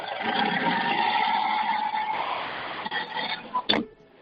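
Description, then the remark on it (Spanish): A running tractor engine is revved at 4:46 in the morning, giving a loud, steady droning roar and a humming tone for several seconds, then eases off and ends in a sharp click. “¿Puedes acelerar un poquito, que escuchemos cómo es el motor de un tractor a las 4:46 de la mañana?”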